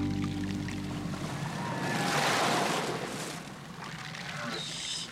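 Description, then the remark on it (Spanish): A ship's engine rumbles steadily over washing water, a low droning hum beneath a broad, hissing surge of waves that swells in the middle and settles again. “Es un buque. Y puede ser un buque cazador de ballenas.”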